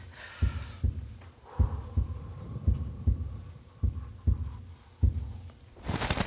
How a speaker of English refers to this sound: It was quiet. No wind, no crickets. Just my heart pounding.